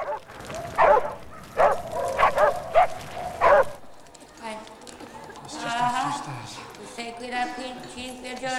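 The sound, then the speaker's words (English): A dog roaming the streets of a war zone where fires burn barks five times in loud, sharp bursts at a steady pace, then the barking stops and indistinct voices take over. “Fires burn. Dogs roam.”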